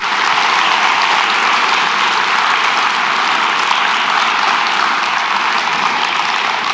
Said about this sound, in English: But yes, you can clap for them.